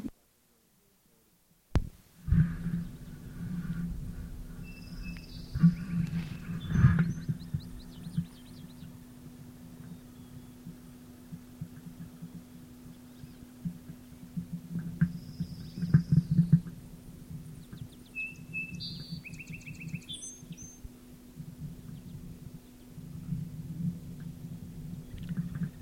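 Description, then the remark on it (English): Male rufous hummingbird calls: scattered bursts of short, high, chippy notes in several brief clusters, heard over a steady low droning hum that runs throughout. “Calls by male rufous, probably passing hummingbirds.”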